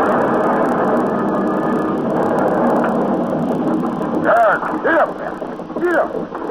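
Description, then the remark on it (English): A horse-drawn mail coach, bound east for Dover on a rainy winter night, rumbles and creaks steadily as it tops the rise of a hill, its wheels and frame grinding along without pause, while voices call out over the noise in the final seconds. “On just that sort of night in 1768, a coach topped the rise of the hill.”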